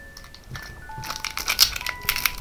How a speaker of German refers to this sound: Das Knisterpapier wäre vielleicht auch noch gut, wenn man es wegnimmt. Ja, da hört man so. Oder unter die Decke stricken, dass es nicht so knistert.